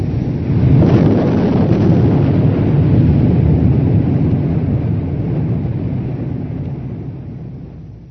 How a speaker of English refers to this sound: Then the explosion, like the shattering destruction of the world.